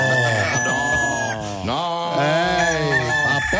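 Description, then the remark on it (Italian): A rooster crows loudly, a long strained cock-a-doodle-doo with a brief break in the middle, while hens cluck faintly in the background. “Anche le galline ci e sono.”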